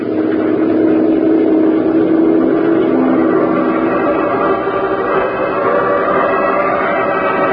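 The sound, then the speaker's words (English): The engine of patrol boat three runs steadily and loudly throughout as it heads for a spot just above an amusement park and circus, a continuous low drone with a churning, rumbling texture and no voices over it. “Head for it, patrol boat three. We'll join you there.”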